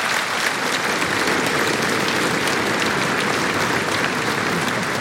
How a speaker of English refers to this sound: And first of all, our umpire is duly rewarded and applauded. Ludovic Mola for his performance. He was sharp today.